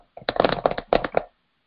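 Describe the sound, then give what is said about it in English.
Rapid clicks of typing on a computer keyboard, a quick burst of keystrokes, a brief pause, then a few more taps, crisp and fairly loud with no voices. “She's typing on her computer.”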